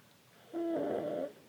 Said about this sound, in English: You can hear my son snoring, and it's absolutely adorable. I would say I'm sorry, but really I'm just, you're welcome. You're welcome for the little baby snores.